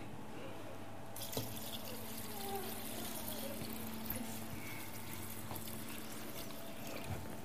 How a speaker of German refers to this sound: Also ich tue ein bisschen Wasser rein.